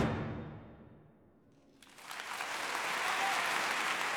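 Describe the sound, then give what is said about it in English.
A low murmuring rumble fades to a brief lull, then a concert audience breaks into dense, sustained applause for The Rite of Spring, many hands clapping at once in a loud, steady roar. “The Rite of Spring has been much analysed by musicologists, but physicists and experts on crowds are just as interested in the applause.”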